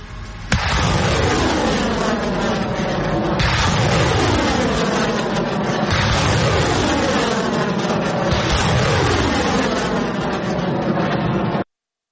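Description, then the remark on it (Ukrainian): A multiple rocket launcher salvo, fired by Ukrainian troops from an Uragan system and two Burevii systems at Russian positions in Kharkiv Oblast: a loud, unbroken roar for about eleven seconds, with fresh launches every two to three seconds, each trailing a falling whoosh. No voices. “Три снаряди, 3 секунди постріл, вогонь!”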